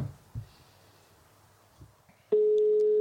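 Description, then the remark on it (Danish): A few soft handling bumps, then a loud, steady telephone ringing tone of an outgoing call starts abruptly near the end and holds unbroken through the final moments, with no talking. “Jeg ringer til”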